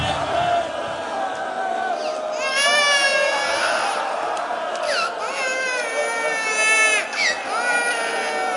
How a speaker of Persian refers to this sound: یعنی شما از این بچه بی‌معرفت ترید؟ یعنی این بچه از شما بیشتر باید گریه کنه؟